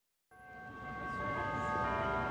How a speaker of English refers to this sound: Church bells ring at Chicago's Holy Name Cathedral, the seat of the country's third largest diocese with 2.3 million Catholics. An evening mass is about to begin.